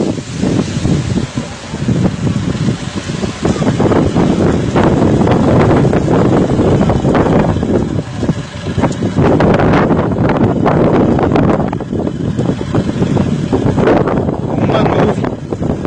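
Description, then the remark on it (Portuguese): Strong wind during a dust storm in Riacho do Meio, Pernambuco, roars and buffets the microphone nonstop, a loud, dense rushing noise with heavy low rumble and gusty surges throughout; a voice is faintly audible beneath it. “Muito vento mesmo, muito vento.”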